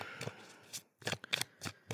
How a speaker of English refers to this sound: So here is the love letters deck. I'll shuffle it up a little bit.